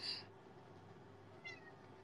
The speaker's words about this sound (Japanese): どうしたの？ みんな聞こえた？かわいいでしょ？ にゃーって泣いた。